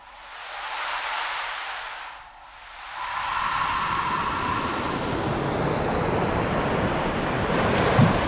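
Ocean waves break on a shore: a first wash of surf fades, then a louder, rushing surge rolls in and roars steadily to the end, with some wind noise and no voices.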